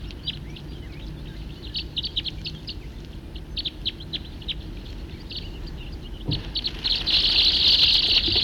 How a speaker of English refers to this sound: A Steller's jay just scared off about 60 birds here, or maybe 100.